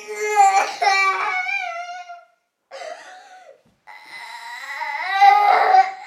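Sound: child crying and sobbing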